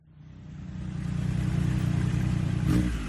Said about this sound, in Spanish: Y cogió la moto y salió a dar una vuelta, pero no a la manzana ni a su ciudad, sino al mundo.